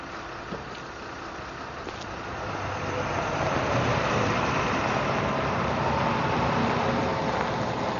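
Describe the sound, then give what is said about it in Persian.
A bus's engine rumble swells over the first few seconds as it arrives, then holds at a steady, fairly loud roar against a background of street noise. “خب مگه نگفتین که اتوبوسش همینه؟”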